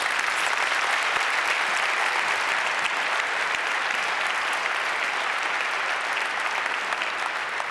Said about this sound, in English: Okay, so thank you. Please give a bit of applause.